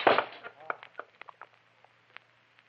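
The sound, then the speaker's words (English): A glass vase full of water smashes on a wooden floor: one loud, sharp crash followed by a scatter of bright, irregular clinks and ticks as pieces settle and fade. “My lovely glass vase smashed into a thousand pieces.”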